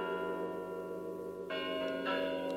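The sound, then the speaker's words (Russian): The Spasskaya Tower clock bells in Moscow chime before the New Year with rich, sustained metallic tones, a new strike entering around midway and another shortly after, ringing out steadily with no voices present. “Это на Спасской башне часы звонят.”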